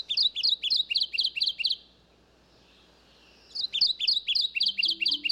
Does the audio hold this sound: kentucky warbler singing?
yes